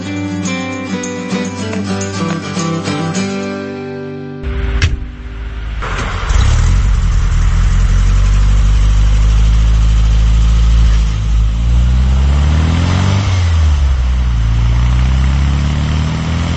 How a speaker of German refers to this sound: Diesen Klang haben sicher viele erkannt. Es ist der VW Käfer.